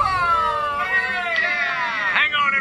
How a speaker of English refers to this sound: A kitten on my six.